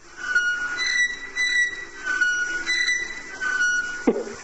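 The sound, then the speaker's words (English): A tui's call played from a phone: a run of metallic, whistling tones and squeaky notes repeating in short phrases at a steady loudness, ending with a brief thump. “you had a problem with a TUI”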